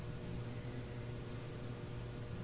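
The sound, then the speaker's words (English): A steady, low mechanical hum from a heating system drones on evenly under a soft wash of airy noise, quiet and continuous with no other sounds or voices. “Aware of the hum of the heating system in the background.”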